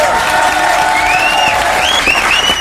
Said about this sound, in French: Oui, vous avez raison d'applaudir, car habiter là-haut, ça mérite bien ça.